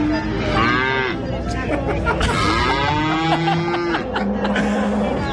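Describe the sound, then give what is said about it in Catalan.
Several cows moo loudly and repeatedly, long drawn-out lowing calls overlapping and drowning out a woman's speech, with a busy background of crowd noise and other animals at a livestock fair on the island of La Palma, Canary Islands. “Però si no se sent ella, només se sent la vaca.”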